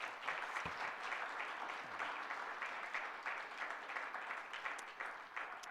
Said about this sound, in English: So we can applaud for her anyhow.